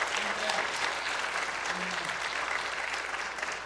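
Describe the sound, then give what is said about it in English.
A crowd at a water baptism applauds and cheers steadily, a dense wash of clapping hands that fills the whole moment, with faint cheering voices rising now and then beneath the sustained applause. “And there are only all those people out there cheering you on.”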